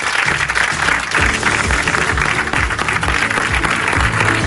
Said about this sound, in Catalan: Un aplaudiment.